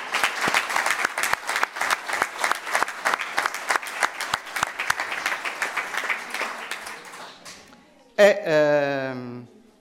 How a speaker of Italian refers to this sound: sempre di Santa Giusta, Roberto Pau, lo salutiamo con un applauso.